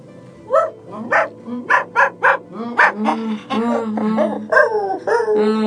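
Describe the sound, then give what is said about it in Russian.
A dog gives a run of short, high yelping barks at an uneven rhythm, then shifts into longer, wavering whimpers and whines that rise and fall in pitch. “И чё, собачка, они тоже случаются верные собаки.”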